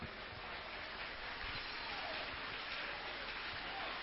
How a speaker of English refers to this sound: Can we clap our hands for Jesus?